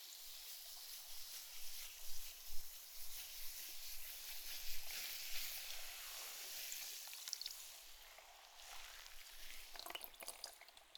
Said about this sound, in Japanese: 私も炭酸の泡の音が心地いいですし